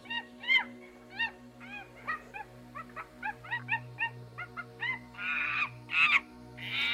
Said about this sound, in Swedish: Ja, det där, det var en liten skränig schimpans, människans närmsta släkting i naturen.